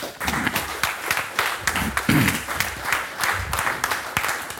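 Audience applause for a speaker on stage at the end of a presentation, a steady wash of many hands clapping with sharp individual claps standing out, sustained at even loudness for several seconds.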